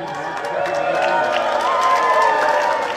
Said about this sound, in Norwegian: De ble møtt med jubel fra familie og venner da de kom ut i ankomsthallen på Flesland flyplass.